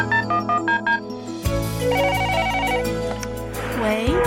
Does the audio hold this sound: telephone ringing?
yes